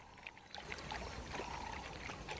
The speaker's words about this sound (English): The mother, always alert, is keeping her eyes on their surroundings as she laps at the water.